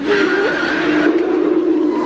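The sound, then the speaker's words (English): A brand new car's engine, being broken in, revs loudly in a steady, droning roar, its pitch holding high and then stepping down partway through before settling into a lower hum. “Oh, and she's driving a brand new car! It sounds like she's breaking it in pretty good, too.”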